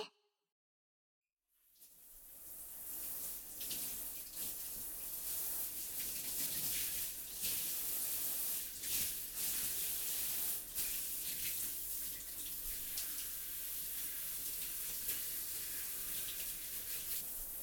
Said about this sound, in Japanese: もうかゆいところはない？じゃあ流すね。泡が入らないように目をつむっててね。